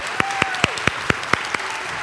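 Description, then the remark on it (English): A crowd applauds steadily to welcome a special guest known as the bird diva, a dense wash of clapping with a few louder claps standing out at a quick, even rhythm. No one speaks. “Could you give a great big round of applause for our friend?”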